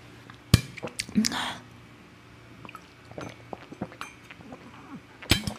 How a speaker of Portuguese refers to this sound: Vou parar aqui para beber uma água, gente. Bebam água, hein? Bebam água.